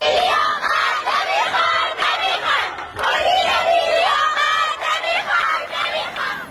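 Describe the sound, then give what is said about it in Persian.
A large group of young voices chants protest slogans in unison, loud and rhythmic, with repeated phrases rising and falling across the crowd in a steady cadence: students gathered in the courtyard of a girls' school in the Deylaman neighborhood of Shahr-e Rey, protesting the school's management policies. “دانش آموزان این مدرسه دخترانه در محله دیلمان شهر ری در اعتراض به سیاست‌های مدیریتی این مدرسه در داخل حیات تجمع و شعار اعتراضی دادند”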